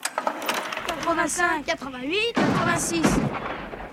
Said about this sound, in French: on dirait bien des coups de feu. Oui. Pas des bambans comme on entend dans les films de guerre, mais des coups de feu, des vrais coups de feu.